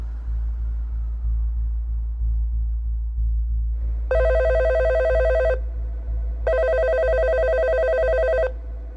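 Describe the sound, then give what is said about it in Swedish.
A telephone rings twice in long electronic bursts, each about a second and a half, separated by a pause, over a steady low rumbling drone with no voices. “I mars 2005 ringer en upprörd mamma till polisen i Palm Beach, Florida.”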